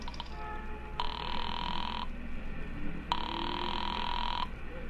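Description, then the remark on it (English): After a nickel is dropped into a coin payphone at a filling station and a number is dialed, a telephone rings twice over the line, two long even bursts separated by a pause, with a steady low hum underneath and no one speaking. “instead dropped the nickel in and dialed Republic 2809 again, just on a hunch”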